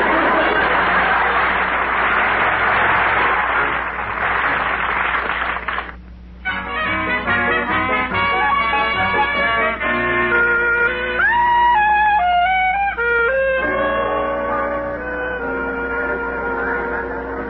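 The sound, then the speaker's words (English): A dense, roaring wash of din and bustle from fast-moving crowds in a subway fills the first few seconds. It then cuts off abruptly and gives way to orchestral music with sustained, shifting notes. “We're in the subway amidst the rush and bustle of the fast-moving crowds with the roar and din of the machine age.”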